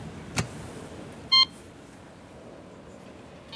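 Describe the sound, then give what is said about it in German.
A short electronic intercom doorbell tone sounds once, a brief loud beep, after a soft click, at a back-courtyard entrance, with quiet outdoor background noise and no talking. “Das ist so ein Hinterhofeingang. Mal schauen. Ich klingel mal.”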